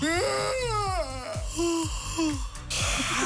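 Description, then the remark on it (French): Several people yawn loudly together in a last group yawn at about 5:58 in the morning: long voiced moaning sighs that rise and then sink in pitch, overlapping one another with breathy gasps between them, filling about three seconds. “Est-ce qu'on se fait un dernier bâillement et après on se dit c'est terminé?”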